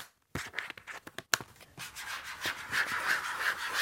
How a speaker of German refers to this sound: Dieses Geräusch entsteht, wenn ich mit meinen Fingernägeln drauf rumkratze.